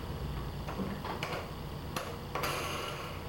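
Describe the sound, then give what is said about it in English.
Small plastic toy airplane wheels turning, giving a few sharp, irregular clicks and ticks over a low, steady background hum, with no voices. “They make a funny noise. There's more wheels, look.”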